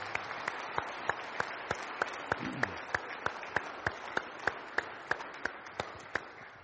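A church audience applauds the worship team on a Sunday morning in a steady, dense wash of clapping, with sharper claps standing out at an even beat of about three per second. No one speaks over it.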